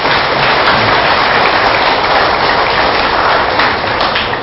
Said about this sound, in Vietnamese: Nếu chúng ta thấy rằng là nỗ lực hòa bình là có thể thực hiện được trong tầm tay, và thực hiện dân chủ là mang lại cái an bình hạnh phúc cho mọi người, hãy dành một tràng vỗ tay thật lớn để làm việc đó.